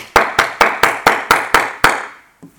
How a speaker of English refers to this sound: Let's applaud.